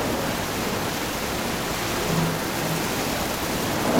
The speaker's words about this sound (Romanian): Atunci Iona s-a urcat sus. A văzut valurile mari și cerul întunecos, a auzit furtuna îngrozitoare și înțelegea că Dumnezeu totuși îl găsise.